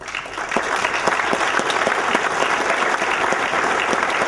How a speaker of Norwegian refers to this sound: Så fremt dere her inne, så har jeg lyst til at dere også skal komme og få en varm, varm applaus.